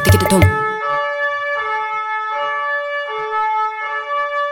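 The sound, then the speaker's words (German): An emergency vehicle siren sounds in a steady two-tone pattern, its loud, buzzy tone repeating about once a second after a brief burst of noise at the start. “Dieses Geräusch kennt ihr bestimmt von der Polizei oder von der Feuerwehr oder vom Rettungsdienst. Aber die DLRG hat auch eine Sirene.”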